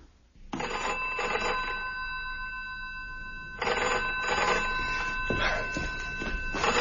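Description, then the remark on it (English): A telephone rings twice in long, steady bursts, each a bright, buzzing bell tone with a short pause between, a call placed at 7 o'clock in the morning. No one speaks. “I'm sorry to have got you out of bed, but you did tell me to ring you at once if I remembered what it was that was wrong”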